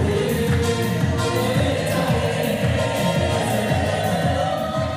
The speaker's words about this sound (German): Es wird geklatscht, laut gesungen und fröhlich getanzt. Spürbare Lebens- und Glaubensfreude im Gottesdienst der äthiopischen Gemeinde.